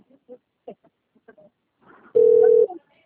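A phone call being placed: a scatter of short, faint dialing beeps, then a single loud, steady ringback tone lasting about half a second before it cuts off.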